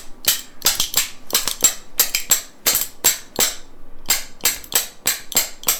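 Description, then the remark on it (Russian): Two wooden spoons are played as percussion, one braced against the thumb and the other held beneath it so they knock together, also struck against the chest and legs. Quick, sharp wooden clacks come in lively rhythmic bursts, some doubled or tripled, played fairly loudly with no voices over them. “А сложно на ложках научиться играть?”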